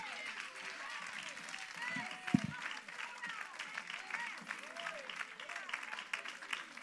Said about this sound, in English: Clap your hands and praise him right now.